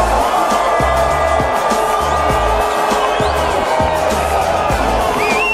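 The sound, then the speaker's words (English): A large crowd at a 420 rally in Denver cheers and whoops loudly and without pause right after counting down to 4:20, when everyone smokes together. It is a dense wall of voices with a few high whistles, while a steady low thumping beat pulses underneath. “Look at that crowd, the freedom.”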